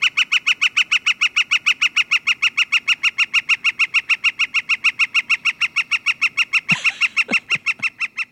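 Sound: northern flicker woodpecker call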